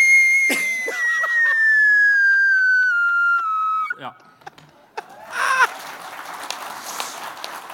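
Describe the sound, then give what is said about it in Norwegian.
A voice imitates a high, sustained scream from a song, a long wailing note that slowly glides downward for about three seconds, followed by a brief pause and a burst of noisy, breathy vocalizing. “Og så kommer det skrike, vet du?”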